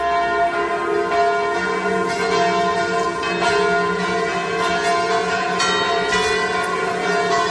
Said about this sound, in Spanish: Es el sonido de las campanas durante los actos de hoy en la estación de esquí en memoria de las 40 personas que perdieron la vida y en apoyo a las 116 que resultaron heridas en una madrugada de Año Nuevo que resultó trágica.